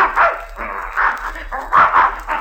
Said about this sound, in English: Well, I'll be darned, there's that mad dog, Adolf. Look at that bear chasing him.